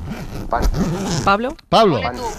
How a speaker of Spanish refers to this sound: Una cremallera.